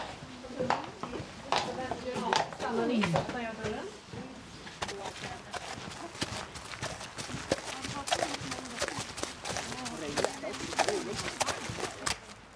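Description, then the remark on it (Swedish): The hooves of a horse named Ramona clop at a steady walking pace as she is led around a lap of a small indoor riding arena before being mounted, the hoofbeats fairly loud, with a person talking over them for much of the time. “Och innan jag sätter mig upp på hästen så ska jag förmodligen gå runt ett varv här med Ramona.”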